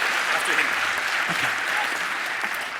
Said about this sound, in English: One special mention for the Russian and Polish teams, that was their first time this year. So one big round of applause for them, please.